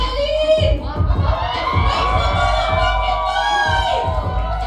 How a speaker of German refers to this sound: Und das junge Publikum feiert sie von der ersten Sekunde an.